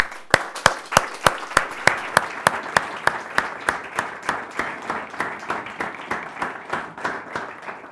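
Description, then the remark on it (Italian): An audience applauds to welcome a speaker, a dense wash of clapping with a strong, regular rhythmic beat running through it, as if many hands clap in time, holding fairly loud for the whole stretch. “vorrei che la accoglieste con un grandissimo applauso, perché ha dimostrato coraggio e soprattutto perché ha rappresentato tutti noi.”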